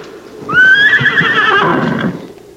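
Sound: horse neighing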